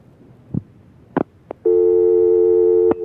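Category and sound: signal or alarm, telephone busy signal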